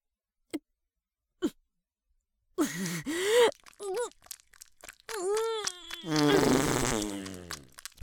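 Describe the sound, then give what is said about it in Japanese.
Two faint clicks, then a series of loud, drawn-out farts with a wobbling, buzzy pitch. The last one is long and sputtering. No one speaks. “どうだどうだ、私のおならは最高だろ。臭いだろ、熱いだろ、たまらないだろ。”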